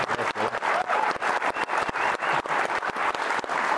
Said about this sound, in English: This year, he's actually our Sterling Scholar winner, and he just won some pretty impressive contests in the state of Utah. So you can applaud. Congratulations.